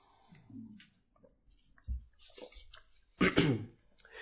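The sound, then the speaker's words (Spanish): Someone drinks water: quiet sips and wet swallowing sounds, a soft thud of a bottle or cup being handled, then a louder burst of gulping and rustle near the end. “Lo invito, sí, a abrir su Biblia en Apocalipsis 17 para culminar este punto, pero mientras lo buscan, voy a tomar agua.”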